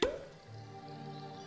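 A cork pops from a bottle with a short, bright burst, followed by a low resonant ringing that lingers quietly for about a second.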